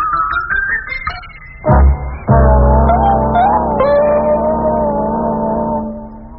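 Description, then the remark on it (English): A car engine runs with a steady low hum, briefly rising in a louder rumble, then settling into an even idle as the car pulls into a driveway and slows. “There's another car pulling into the drive.”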